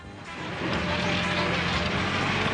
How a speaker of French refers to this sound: Attention, le camion revient.